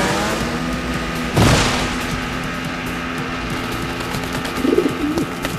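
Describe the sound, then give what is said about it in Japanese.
A pigeon gives a short, soft cooing phrase near the end, heard over a steady outdoor rumble with one brief whooshing burst earlier. Nobody speaks. “あんなところに鳩が。”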